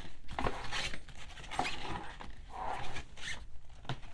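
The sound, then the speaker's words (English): A cardboard box with styrofoam packing inside is handled and shifted for about four seconds, the styrofoam rubbing against the cardboard giving scraping, rattling noises with several short, high squeaks mixed in at irregular moments. No one speaks. “I don't think it's supposed to squeak like that.”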